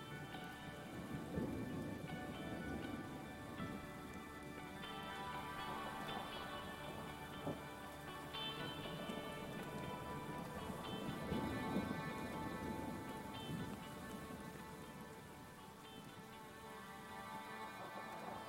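Steady rain falls on a fall day across the Solon Springs Sharptail Barrens State Natural Area, a rolling sandscape with scattered trees: a continuous soft patter of drops with a low, full background wash that holds an even level for the whole stretch, with no voices.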